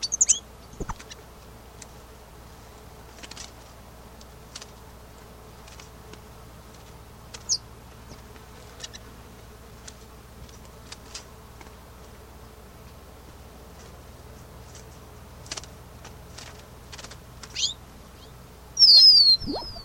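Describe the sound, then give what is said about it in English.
Sparse, thin, high-pitched calls from a female bird come and go over a steady low hum, ending in a louder, busier burst of chirping in the final seconds. “Continuing, these have all been vocalizations of bird to become specimen number 147.”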